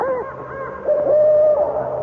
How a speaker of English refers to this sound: It is just an owl.